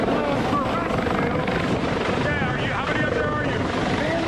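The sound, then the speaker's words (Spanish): A US Coast Guard helicopter hovers during a hurricane rescue, lifting residents and their pets up in a cage. Its rotor roars loud and steady throughout, with faint voices and wind noise mixed beneath the constant churn. “Primero ponen a su esposa y a uno de sus 3 gatos en esta jaula que los sube al helicóptero.”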